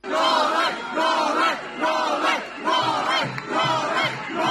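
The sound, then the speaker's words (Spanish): Hundreds of people outside the office of Djokovic's lawyers in Melbourne shout a rhythmic chant of "Free Novak" in loud, repeated bursts as a car leaves, many voices rising and falling together in a steady cadence with roaring noise throughout. “En Melbourne, a las puertas del despacho de los abogados de Djokovic, cientos de personas se han vuelto locas al ver salir un coche.”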